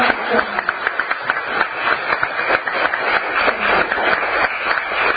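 An audience at a temple gathering applauds as a gift is presented, many hands clapping in a dense, steady patter that holds at an even, fairly loud level for about five seconds without letting up.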